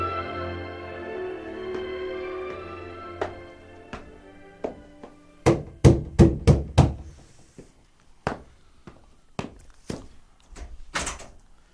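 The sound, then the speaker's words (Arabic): In the morning, someone knocks on a wooden door in quick bursts of sharp raps, at first faint over a low background, then louder, with a pause between sets of knocks. “فلما أصبح سمع طرقات على الباب.”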